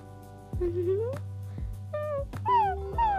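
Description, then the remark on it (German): A voice imitates a dog barking with a few drawn-out, rising yelps, fairly loud, over a steady low musical drone. “Wuff, wuff.”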